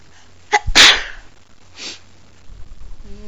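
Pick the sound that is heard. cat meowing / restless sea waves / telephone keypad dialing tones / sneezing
sneezing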